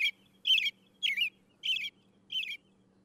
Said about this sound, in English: Sounds like a robin to me.